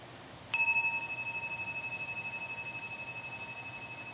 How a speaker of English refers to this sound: So as we listen tonight, just as a way to keep coming back, you might just listen to the sound of the bell as an invitation into here-ness. Just listen.